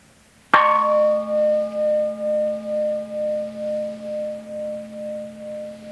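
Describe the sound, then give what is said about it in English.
A single gong is struck once, then rings on with a long, steady hum that wobbles in slow pulses as it gradually fades. No voices, just the resonating metal. “especially if you don't have a gong, we can use what are called in the Sanskrit language, mantra”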